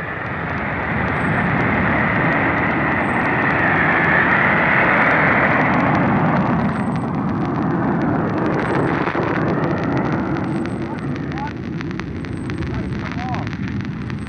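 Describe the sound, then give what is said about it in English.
The Army's P-80 Shooting Star jet propulsion plane taking off from LaGuardia Airfield, New York, on a speed record attempt to Washington: a loud, continuous roar with a high-pitched whine that swells and peaks partway through, then gives way to a broad, rumbling rush of engine noise. “Poised at the end of the runway is the Army's P-80 jet propulsion plane, the Shooting Star.”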